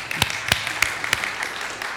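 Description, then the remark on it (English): Sparse clapping for a guest organist after her prelude: about four sharp, evenly spaced claps roughly a third of a second apart, over a steady background hiss, with no talking. “we can clap for Mary if you want.”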